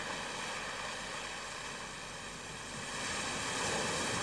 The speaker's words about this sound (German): Sie hören der Meeresbrandung zu, das Rauschen der Meereswellen. Mal hart und mal friedlich schmettert das Wasser über den Sand oder gar an ein paar Felsen.